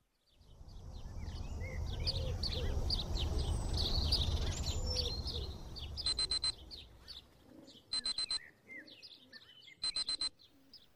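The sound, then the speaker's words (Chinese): Birds chirp and coo in the background, then an alarm clock goes off in three short bursts of rapid, insistent buzzing, about two seconds apart. “随着闹钟的嗡鸣声响起，我和往常一样起床给老公做早餐”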